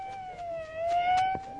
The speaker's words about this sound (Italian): Già, l'ambulanza, ancora l'ambulanza. E chi l'ha chiamata non si sa, comunque porta continuamente feriti all'ospedale di Santo Spirito, sì, a Canini.